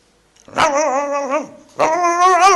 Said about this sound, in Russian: Но собака не спит какая-то. Вот она и лает, и ходит за мной, и лает в эту тишину, разрушает.